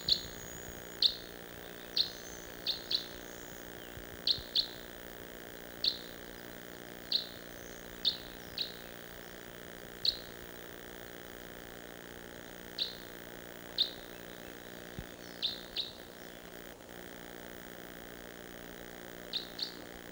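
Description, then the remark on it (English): Short, high bird flight calls chirp again and again at irregular intervals, sometimes in quick pairs, fairly faint and distant over a quiet background with no talking. “I hear another, maybe a type 5.”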